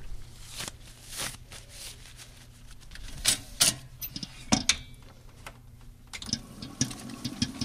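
A head chef types on a laptop at a high-top bar, planning the week and starting the ordering process: a quick, uneven run of light clicks and taps with a few sharper keystrokes, over a low steady hum. Nobody speaks.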